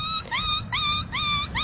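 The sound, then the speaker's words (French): A human imitates a sheep's bleat in quick succession: about four wavering, nasal cries in a steady rhythm, loud, with no talking around them. “Ça, c'est le mouton.”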